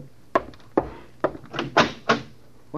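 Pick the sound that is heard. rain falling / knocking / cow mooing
knocking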